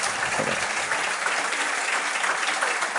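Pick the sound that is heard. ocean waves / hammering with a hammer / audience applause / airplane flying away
audience applause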